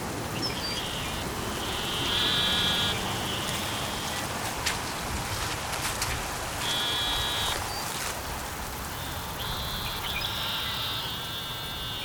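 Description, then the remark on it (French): Narrow-mouthed toads call in long, nasal buzzing bleats that come in overlapping bursts every few seconds, heard from a porch in the early morning as a thunderstorm passes, set against a steady wash of rain with no one speaking. “Alors arrivent les crapauds à petite bouche.”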